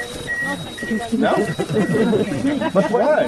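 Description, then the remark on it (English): A small handheld radiation meter, held next to the rusted metal of a tank during a tour at Chernobyl, emits a steady series of short, high electronic beeps at an even rhythm, continuing under a man's voice speaking. “The constant beeping of …'s radiation meter during the tour is a constant reminder of Chernobyl's toxic legacy”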